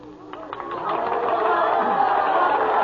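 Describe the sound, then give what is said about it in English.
A crowd cheers and claps, the roar swelling after the first second into a steady, dense wash of noise that sounds somewhat distant, with scattered sharp claps near the start. “Anyway, in my dream, I heard cheering and applause in the distance.”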